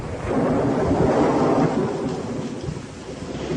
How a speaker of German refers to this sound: Ganz im Gegensatz hierzu dienen Donner, Blitz und Regen in zahllosen Horrorfilmen seit Beginn des Tonfilms der Illustrierung des Schreckens.